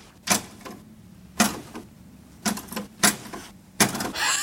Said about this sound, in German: Erika, die Erika-Schreibmaschine, das sagt mir was, ja.